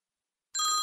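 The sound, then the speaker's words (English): Silence, then a cell phone ringtone bursts in loud with bright, chiming electronic tones, cut off after a fraction of a second. “Hey, your microphone's blowing up. You might want to get it.”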